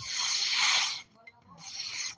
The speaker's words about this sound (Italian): Io troverei interessante far sentire il rumore, no, della carta tagliata. È un suono.